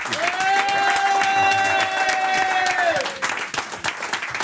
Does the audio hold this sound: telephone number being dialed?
no